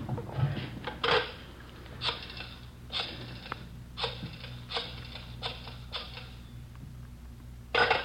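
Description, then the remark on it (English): A telephone being dialed to call a wife, left to ring once as a signal: a series of short mechanical clicking and whirring bursts, evenly spaced about a second apart, with no one talking. “You let her ring once. She knows the signal.”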